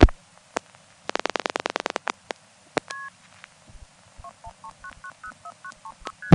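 A rapid run of electronic clicks, then a quick string of about a dozen short two-tone multi-frequency telephone dialing beeps that shift in pitch, clear on a quiet phone line, from a 1970s call in Jacksonville, North Carolina.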